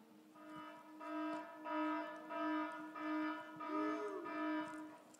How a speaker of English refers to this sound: Okay, do we have that alarm sound? Here we go. Go for it.